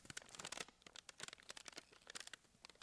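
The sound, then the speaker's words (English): Paper and cellophane are crumpled, producing a dense run of sharp, irregular crackles and pops that mimic a crackling fire, steady for a few seconds with no voices. “paper and cellophane.”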